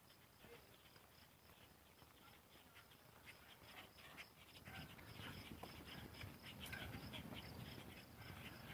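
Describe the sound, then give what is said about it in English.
A dog being walked pants in quick, breathy rhythm, growing a bit louder halfway through, while a steady high insect drone hums in the background. “Good morning, dog.”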